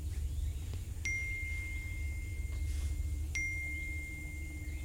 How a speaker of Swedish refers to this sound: En telefon ger ifrån sig sms-signal efter sms-signal. Jag tar upp telefonen och tittar.